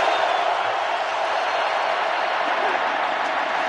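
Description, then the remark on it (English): A steady, loud roar of a large crowd at the RCA Dome during a Colts football game fills the whole stretch, a dense wash of voices and noise with no breaks or distinct words. “We trust this will put an end to the ridiculous and unfounded accusations that the Colts artificially enhanced crowd noise at the RCA dome.”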